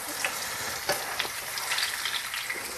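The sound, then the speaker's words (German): Steady, dense crackling sizzle of marshmallows deep-frying in hot fat, with scattered louder pops and spits rising above the constant hiss; no voices. “Also ich habe Marshmallows, glaube ich, noch nie in Fett reingeschmissen.”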